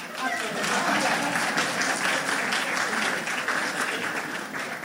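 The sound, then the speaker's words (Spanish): An audience applauds on request for about five seconds, a dense crackle of many hands clapping at an even, sustained loudness with a slight fade near the end. “Tienen que aplaudir.”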